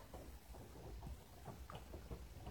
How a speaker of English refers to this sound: It's raining out there, you know. If I didn't have these huge feathered wings to shelter under, I'd be so wet.